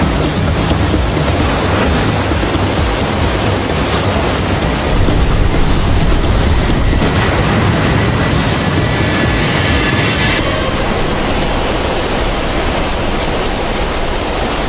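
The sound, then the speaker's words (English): A tidal bore surges past as a loud, continuous roar of rushing water, a dense hiss with deep rumbling underneath that swells slightly midway, with no voices. “The force of the tide makes a rubber run backwards.”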